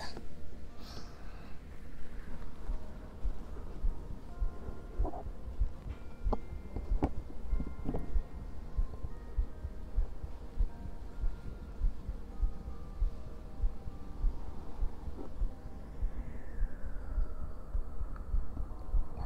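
heartbeat

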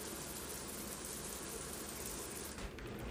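shower running

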